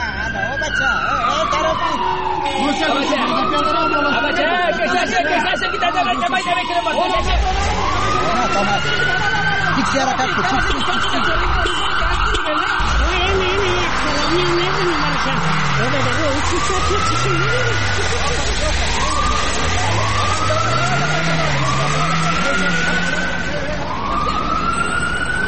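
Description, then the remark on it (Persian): A convoy of several cars with tinted windows and no number plates rolls along a road with loud traffic rumble, while sirens repeatedly wail up and down in sweeping cycles throughout. “بله بله حدثم درست بود، اونه چند تا موتر شیشه‌سیای بی‌نمبر پلت از جاده رفت طرف ما میان و میخوان که طرف چرایی تیر شوند.”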